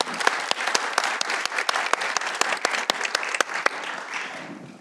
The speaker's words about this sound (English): And here to get us started in our conversation about this book is Reverend Earl Palmer. Let's have a big round of applause for Earl.